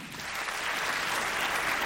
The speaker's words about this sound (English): Clap if you knew your person 5 years or less. Okay? Clap if it was 3 years or less.